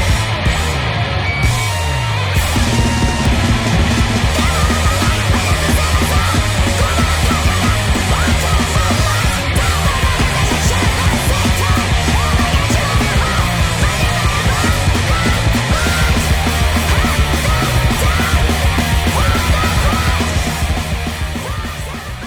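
A loud, dense rock song with distorted guitar plays steadily over pounding drums and heavy bass, its driving rhythm holding at full volume for the whole stretch with no speech.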